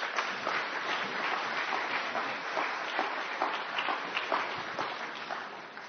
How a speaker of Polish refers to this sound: Przywitajmy go oklaskami.